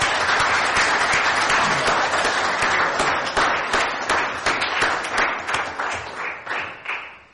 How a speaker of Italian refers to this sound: essere intervenuti a questo incontro con l'amministrazione che ospita questa mattina a Soveria Mannelli l'onorevole Giuseppe Castiglione, sottosegretario di Stato alle politiche agricole, alimentari e forestali. Accogliamolo con un caloroso applauso.